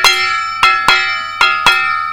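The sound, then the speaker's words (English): A small gong is struck five times with a stick in an uneven rhythm, each bright metallic hit ringing on and overlapping the next. Loud, with no voices. “Вот так они стучат, эти гонги”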